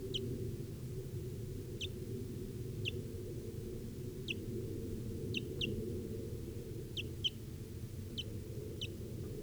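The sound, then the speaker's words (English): A barely fledged young wild bird gives short, high-pitched chirps at a steady, broken rhythm, about a dozen thin peeps, some in quick doubles, over a constant low rumbling background hum, recorded at 10:09 a.m. “Recording of the wild bird here now.”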